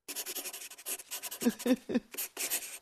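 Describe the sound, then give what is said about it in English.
Pencil scratching across paper in quick, uneven strokes, a few heavier marks standing out near the middle, with no voices. “Do you think he wrote it all with a pencil?”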